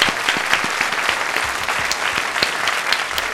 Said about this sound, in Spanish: Un aplauso para ella, bienvenida. ¡Viva Nexpertos!